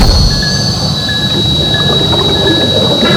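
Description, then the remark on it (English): A suit's built-in metal-cutting saw runs steadily, a loud grinding roar under a constant high whine, with brief squealing tones rising and fading several times as the blade bites. “Activating your suit's metal saw, Dr. Graf. Use caution with this operation.”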